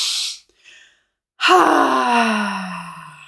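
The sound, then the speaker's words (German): In a breathing exercise, two quick sniffing inhales through the nose, the first strong and the second short and faint, followed after a pause by a long, steady hummed tone on the exhale. “Wir atmen doppelt ein und dann ein Summen, ein. Mach das noch einmal mit mir mit, beides. Über die Nase einatmen.”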